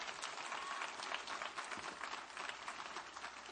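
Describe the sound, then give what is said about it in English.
A crowd clapping together during a sermon, a dense, steady patter of many hands that stays loud and even across the whole stretch, with no talking over it. “Give a good clap up.”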